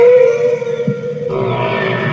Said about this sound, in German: Bei Walen ist das ein bisschen anders. Bei Walen entscheidet nicht die Lautstärke. Also wir hören mal, wie so ein Wal macht. Also die machen so.